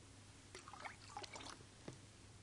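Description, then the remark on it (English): Squash being poured into a clear jug of water: soft gurgles and brief splashy trickles over about two seconds, fairly quiet, with a steady low hum in the background and no talking. “Let me try and illustrate this for you very badly, I think, but this is a jug of water. Clear jug of water. It's water right now. This is squash.”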